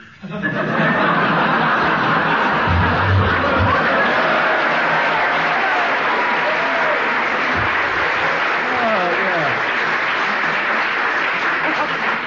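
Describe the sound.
A studio audience at a panel game show breaks into sustained, dense applause to judge the winner of a round, keeping a steady level for about twelve seconds, mixed with scattered laughter and a few voices underneath.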